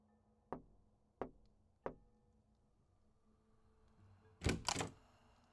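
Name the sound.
knocking on a door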